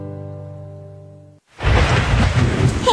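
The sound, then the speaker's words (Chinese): A steady tonal hum fades out, then after a brief pause a loud thunderstorm bursts in: heavy rain hissing steadily over a deep rolling rumble of thunder. “嘿嘿，躲进温暖的家就不会淋雨了。”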